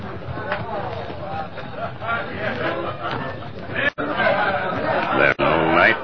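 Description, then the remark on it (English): Many overlapping voices chatter in a cafe in a steady, busy hubbub, with occasional laughter breaking through; the murmur stays loud and continuous, dipping briefly twice near the end. “Sound like many feller in cafe.”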